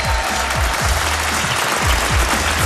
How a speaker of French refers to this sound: Ça fait toujours plaisir de se faire un peu applaudir de temps en temps.